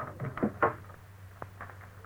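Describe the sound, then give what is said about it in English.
A service door is opened with a couple of quick wooden clunks and a rattle, then a sharp click, all over a low steady hum. “Just open the service door there.”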